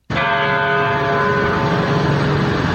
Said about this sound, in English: At 9:30 this morning on the one-week mark of the massacre at Sandy Hook Elementary churches across Newtown, Connecticut, rang their bells 26 times in remembrance of lives lost. Hear the first.